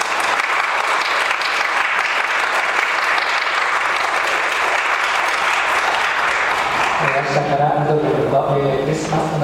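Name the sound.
audience applause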